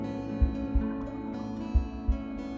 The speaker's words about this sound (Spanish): Y sintiendo esos latidos y ese pulsar y esas contracciones que te arrojaban y te lanzaban poco a poco hacia la vida.